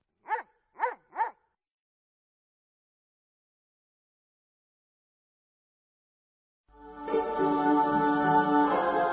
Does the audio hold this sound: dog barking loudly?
yes